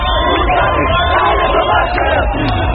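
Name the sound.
crowd chanting political slogans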